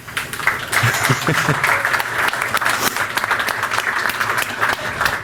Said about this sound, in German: Also da auch einen ganz herzlichen Dank für die HelferInnen. Die kriegen jetzt sogar einen Applaus.